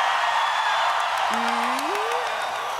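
An audience shouts and cheers to vote for a contestant on stage, in a steady, loud roar that fills the whole moment, with a single rising whoop standing out briefly in the middle.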